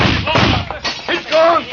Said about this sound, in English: Wait! He smashed the lamp. The place is on fire.